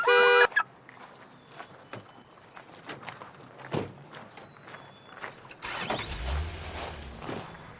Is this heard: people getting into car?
yes